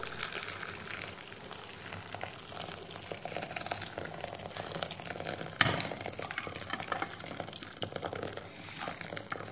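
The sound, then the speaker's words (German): Hot water, boiled in a kettle, is poured slowly into a large glass bowl on a table holding a bag, as an experiment: a continuous bubbling, splashing wash of liquid with a brief sharper clink or splash midway, moderately loud with no talking. “Dann gießt er das heiße Wasser langsam in die Schüssel, in der die Tüte liegt.”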